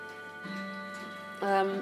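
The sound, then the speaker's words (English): Several clocks chime together, sustained ringing tones overlapping, with a second, louder chime joining near the end over a faint ticking background. “Oh, blimey, they're all going to go now. Ah, you're going to get attacked by clocks, sorry.”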